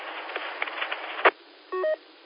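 A phone call coming in: a sharp click over a muffled, hissy line, then a brief two-step electronic phone tone, clear.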